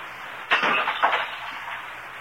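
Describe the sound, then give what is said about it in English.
A man deliberately smashes an ornament: a sudden crash of the brittle object shattering, followed a half-second later by a second smaller impact as pieces scatter and settle. It is fairly loud, with no voices. “Did something get broken here, Mr. Craig? Did that ornament fall off the mantelpiece?”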